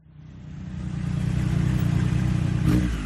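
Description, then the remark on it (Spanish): A motorcycle engine rumbles up from quiet and revs hard as the rider sets off on a ride around the world, its low growl building steadily and holding loud as it pulls away, with a sharper rasp near the end. “Y cogió la moto y salió a dar una vuelta, pero no a la manzana ni a su ciudad, sino al mundo.”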